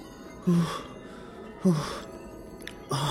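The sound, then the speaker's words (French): A voice imitates a young woman's short, pained moans: three breathy, low groans spaced about a second apart, fairly loud, with quiet pauses between them. “Elle gémissait à petits coups, comme ça.”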